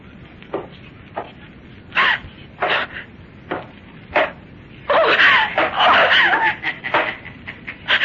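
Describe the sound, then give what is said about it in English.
A voice lets out a string of short, shrill cries, building into a longer, louder stretch of frantic screaming and wailing before a few final yelps. “Please, don't scream.”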